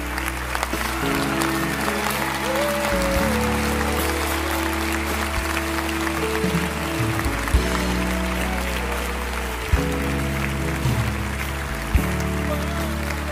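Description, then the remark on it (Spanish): An audience at a church consecration service applauds steadily for the whole stretch, a dense wash of clapping layered over sustained, shifting keyboard chords, loud and even without pause. “Él es ese aplauso, son sus hermanos.”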